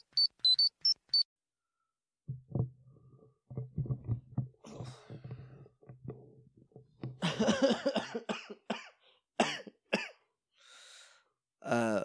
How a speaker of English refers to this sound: So I do this cough, right? Yeah. And I you do this cough. And I keep doing this cough. And it's at the point where I'm pretty sure next time I cough, listen carefully.